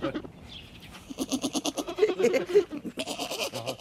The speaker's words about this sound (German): Es hat eine lustige Sprache, ja. So eine kleine Ziege. So klein und schon so meckerig.